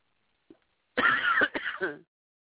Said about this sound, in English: I apologize for the coughing in your guys' ears. I'm getting over a cold.